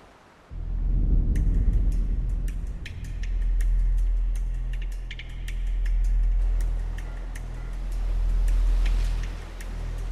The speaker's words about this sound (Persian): کامیونه اونه؟ خودشه. 30 میلیون سنگ گرم با اونم مسیرشه. دو روز.